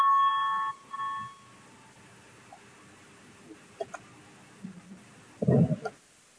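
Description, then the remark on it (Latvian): A parliament voting bell rings to call a vote on the 30th proposal, submitted by the Cabinet of Ministers, as a steady, high electronic tone in two bursts, the first longer than the second. Quiet follows, with a few faint clicks and a brief low thump. “Lūdzu, zvanu balsosim par 30. ministra kabineta iesniegto priekšlikumu, lūdzu balsosim.”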